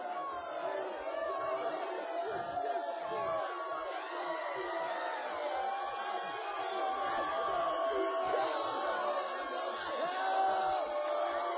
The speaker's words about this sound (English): This came from a church, Fairland Holiness Church, and not one of them young people was feeling the fire of hell. And there's only about 50 of them screaming and crying.